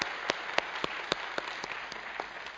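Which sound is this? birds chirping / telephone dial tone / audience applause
audience applause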